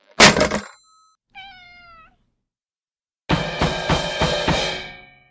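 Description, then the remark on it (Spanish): A sharp metallic clatter, then a cat gives a short falling meow followed by a longer, louder, wavering yowl, with no talking. “Por cierto, ¿cómo está tu gato? ¿Le estás dando la pomada para las lombrices intestinales que te di?”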